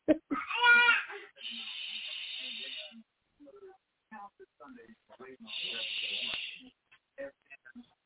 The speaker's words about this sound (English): She's in her crib yelling because she don't want to go to bed. And she wants somebody to take her out.